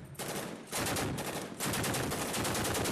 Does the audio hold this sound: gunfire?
yes